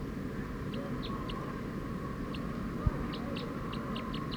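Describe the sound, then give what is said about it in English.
A wild bird calls in a fast series of short, high notes, about a dozen, bunching closer together toward the end, over a steady low hum and rumble. “Decoy, the wild bird's going pretty fast now.”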